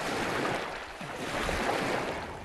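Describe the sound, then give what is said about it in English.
Water of Yellowstone Lake lapping against the shore in a steady, continuous wash, with soft swells rising and falling and a faint breath of wind; no voices. “Then there was Yellowstone Lake, where I had to stop and skip some rocks.”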